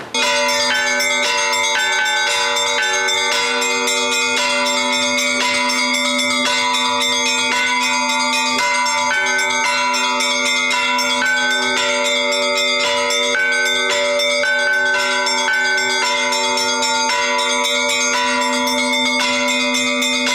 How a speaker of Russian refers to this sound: Он существует вот уже 4000 лет – колокол.